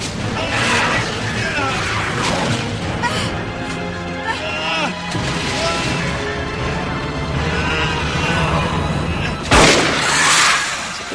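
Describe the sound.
Video game gunfire and explosions fill a busy, loud mix, with one sharp, heavy blast near the end standing out above the din. Voices talk excitedly underneath.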